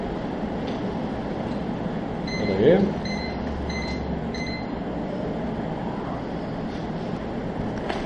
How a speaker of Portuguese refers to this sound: É que de vez em quando a gente vai mudar o modo do ventilador para o fraco, ele liga aquele no máximo. Vamos ver.